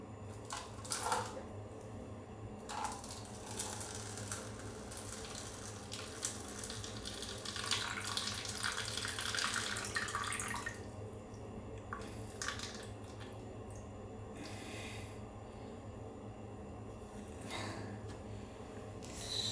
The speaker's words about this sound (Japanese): じゃあもう早速なんですが、おしっこしていきます。ちょっと閉めとくかな。あれだからね、紙コップにするかつ朝の一発目だから、じゃあなんかここ動くな。こぼしちゃいそう。よし、じゃあいきますね。